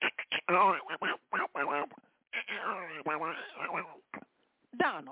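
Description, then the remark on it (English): A voice does a squawky Donald Duck impression in quick garbled bursts, fairly loud, with short pauses between phrases. “Y'all know Donald Duck's been hanging out around here.”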